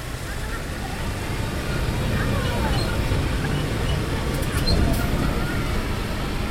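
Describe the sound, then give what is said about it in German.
A tractor pulling wagons loaded with bathers along an asphalt road to the shore of the Dead Sea, its engine rumbling low and steady throughout with continuous road noise, moderately loud. “Ein Traktor zieht die Wagen auf einer asphaltierten Straße bis zum Ufer des Toten Meers.”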